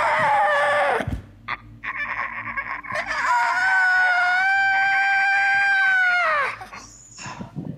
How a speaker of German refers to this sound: Und dann bringt sie diesen scheiß Vogel um. Genau, jetzt.